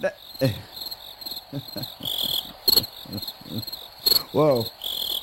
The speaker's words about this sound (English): Whoa. I think that sounds like a gay cricket. I think it's great. Loud cricket.